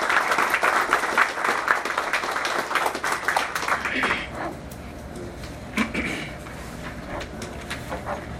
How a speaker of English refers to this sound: But again, thank y'all so much. Let's give them all one more big round of applause.